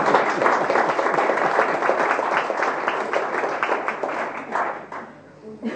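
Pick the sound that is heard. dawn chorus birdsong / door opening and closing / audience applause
audience applause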